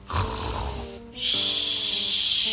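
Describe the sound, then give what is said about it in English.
Two long, loud snores, each a rasping breath with a wheezy, whistling edge, separated by a brief pause. Clear, with no voices. “This one always snores.”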